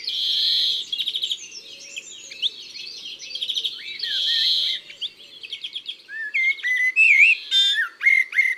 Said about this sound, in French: Dans le chant du verdier, on trouve toujours des sons tremblés, des tiou-tiou-tiou, et surtout un ni nasal typique.